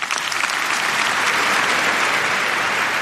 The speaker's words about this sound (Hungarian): Pater Lombardi felkérése után Leo pápa átadta Riccardo Muti karmesternek a Ratzinger díj diplomáját, amelyet a 6. Pál aulát megtöltő mintegy 5000 résztvevő hangos tapsal jutalmazott.